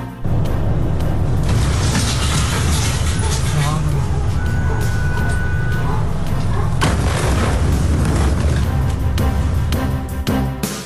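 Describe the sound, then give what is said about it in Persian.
A large explosion in Beirut, Lebanon, roars loudly and continuously, a deep rumbling blast with sharp cracking bursts, dense chaotic noise sustained throughout, with faint voices mixed into the din. “وقوع انفجار بزرگ در بیروت، تمامی پایتخت لبنان و حومه آن بر سر این انفجار لرزیده است.”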